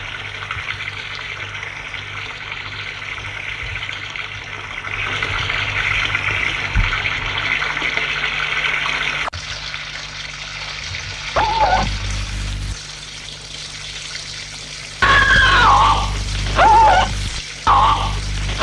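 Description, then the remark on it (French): Boiling water pours down onto a woman in a steady, hissing rush that shifts partway through, then turns into choppier bursts of splashing and gushing toward the end. No voices are heard. “On la tient, on la mène dans un coin, on la maintient avec des sangles, et tout à coup, l'eau bouillante tombe sur elle.”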